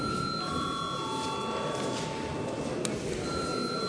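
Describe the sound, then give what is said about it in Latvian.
The chamber bell of the Saeima, the Latvian parliament, rings steadily and without a break before a registration of deputies, a sustained electric tone over a hushed murmur, with no one speaking. “Lūdzu uz zvanu.”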